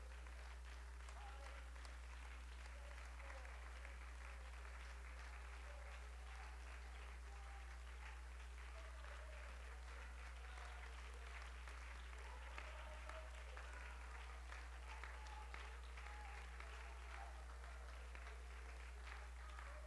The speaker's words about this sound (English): Why don't we give the Lord a hand clap of praise?